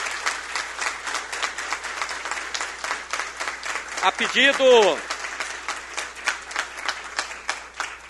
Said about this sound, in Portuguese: por gentileza, de forma coletiva e com claro e bom tom, uma grande salva de palmas, eles que representam a realeza.